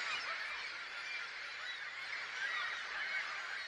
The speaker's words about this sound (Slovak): Konkrétny zvuk vtákov. Veľký, biely. To má taký šedý. Nie, sú to čajky. Á, čajky.